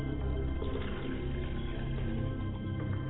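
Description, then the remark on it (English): Water splashes and trickles as someone washes their face, a steady wet sloshing with small irregular spatters and no talking. “As I call on the ancestors today, I wash my face so that I do not greet them with the stale face.”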